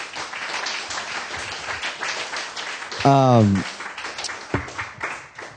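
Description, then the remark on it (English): An audience at the Grassroots Bitcoin event claps steadily for the presenters in a dense, crackling wash of applause, with a single loud voiced cheer rising briefly above it midway before the clapping carries on. “Huge round of applause for these guys.”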